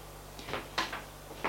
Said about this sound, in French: Va au réfrigérateur. Il prend une canette de coca, un yaourt nature. Ferme le réfrigérateur.